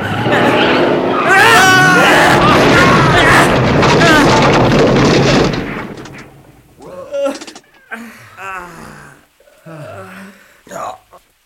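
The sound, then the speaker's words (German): A landslide on a hillside and a braking car crashing into a rock wall: a loud, sustained rumbling roar mixed with shrill, wavering tire screeches for about five seconds, then it cuts out and a voice speaks in short bursts. “Kollegen, da vorne am Hang, da, das ist ein Erdrutsch.”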